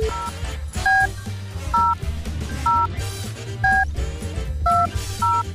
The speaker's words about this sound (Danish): men jeg har givet dig et telefonnummer. Så ringer vi.